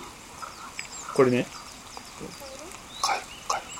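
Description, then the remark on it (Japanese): A frog gives a short, raspy croak that sounds like a choking cough, followed by two fainter calls a couple of seconds later, with brief speech and light background noise around them. Recorded on a mountainside where a small waterfall-like stream crosses a hiking trail and drops toward a valley. “何個か僕ちょっと音取ったんですけど、 う ん、おもろい音がね、カエルの音があるんでちょっと聞いてもらっていいですか。”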